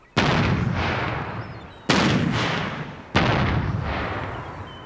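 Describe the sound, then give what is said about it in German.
Three loud, booming blasts from a boat-mounted acoustic bird-scaring cannon, fired by the crew while the fishing lines are being set out to drive birds away. The shots come in quick succession, each followed by a long rumbling echo that fades slowly before the next. No voices. “Während die Leinen ausgebracht werden, feuert die Besatzung in 1-2 Minuten Abständen eine auf dem Boot montierte akustische Kanone ab, um die Vögel zu vertreiben.”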